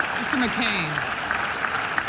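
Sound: senators applauding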